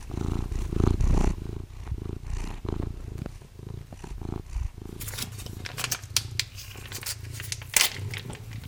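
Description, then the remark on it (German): A tomcat purrs with a steady, rumbling rhythm while waiting for his daily morning portion of commercial cat food, joined in the second half by crinkly rustling and brief bright scraping noises. “Während er darauf wartet, macht der Kater dieses Geräusch.”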